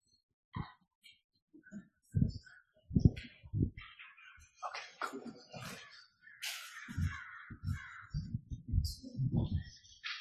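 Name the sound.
crows cawing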